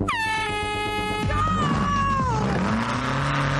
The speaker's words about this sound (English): It's made from an old steel gate, a Jeep engine, and some Beetle panelling, but this car looks right at home on the racetrack.